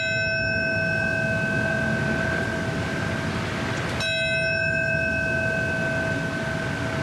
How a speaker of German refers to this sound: Mit Glockenschlägen und Schweigeminuten wurde heute auch an die Momente erinnert, an denen die Türme des World Trade Centers einstürzten und viele Menschen mit in den Tod rissen.